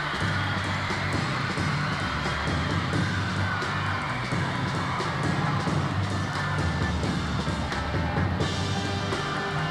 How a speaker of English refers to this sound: The crowd's screaming. Oh. He does it all to the beat.